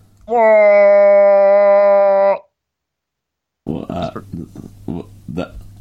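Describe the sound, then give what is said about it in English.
A moose mating call sound effect: one loud, steady, buzzing bellow held for about two seconds, low and rich in overtones. It cuts off into a brief silence, then a person starts talking. “I said blow the air horn, not the moose mating call.”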